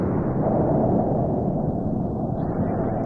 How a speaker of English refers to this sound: Thereafter, he did little but stare from his west window, shiver at the threat of thunder, and make wild entries in his diary.